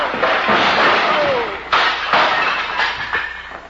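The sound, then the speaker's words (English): A loud crash of breaking glass and tumbling bottles, with heavy thuds and several sharp impacts over a few seconds, as a man hit in a fistfight falls against a bar and upsets the bottles, spilling bourbon over him. “The way you're hitting him, he's going to fall against the bar and upset those beautiful bottles...”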